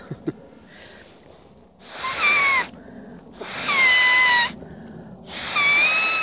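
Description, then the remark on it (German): Three shrill, reedy squawks blown on a blade of grass by an animal-voice imitator and art whistler imitate a pheasant's call. Each lasts about a second with a raspy, buzzing edge and a slightly falling pitch, separated by brief pauses. “Das ist der Fasan.”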